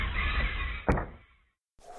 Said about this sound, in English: The place, the kitchen of an abandoned farmhouse in an isolated farm community in the Midwest. As the outside door to the kitchen opens, five people file into the dismal room, and we hear...